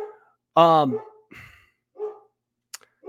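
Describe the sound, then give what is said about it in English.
A dog lets out one loud bark, with a few brief bits of a person's voice before and after it. “Yeah, I have a dog.”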